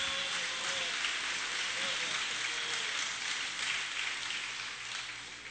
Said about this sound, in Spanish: Aplauda al Señor.